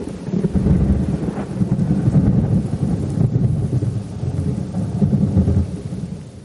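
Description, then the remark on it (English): A heavy thunderstorm with steady rain, deep rolling thunder rumbling continuously throughout, loud, with a broad wash of rainfall noise and no voices. “And that is how to cook up a storm.”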